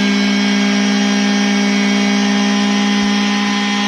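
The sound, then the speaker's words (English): A vehicle engine, cranked up to clear it out, runs hard at high revs, a loud, steady droning roar with a strong humming tone and a high whine, holding constant throughout with no one talking. “I thought you had a wet dry vac going off.”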